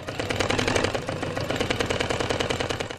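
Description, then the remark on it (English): A sewing machine runs steadily, its needle hammering in a fast, even mechanical rhythm with a dense, rattling clatter and a low motor hum underneath, fairly loud throughout, no voices. “Sounds of the sewing machine ending that report”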